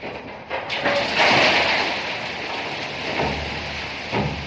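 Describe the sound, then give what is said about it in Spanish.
A metal mine cart, tipped over by hand, tips with a broad, rattling rush, like loose rock spilling out, and a few heavier knocks and low rumbles sound through the steady clatter; linked to the former mining area of Villarroya, La Rioja. “¿Es este el sonido de un carro minero o vagón minero volteado de manera manual?”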